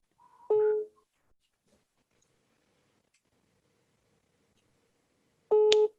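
Two bursts of a telephone ringback tone heard over a loudspeaker during a phone call placed live while recording, each lasting about a third of a second and separated by a long silent gap, steady-pitched and moderately loud.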